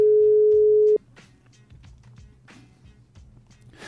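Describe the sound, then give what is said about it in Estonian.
A single steady ringback tone of a phone call, loud and lasting about a second, then it stops and only faint background clatter and rustling remain, with no one answering. “Mis saavad siis olla põhjused, et mitte telefoni vastu võtta?”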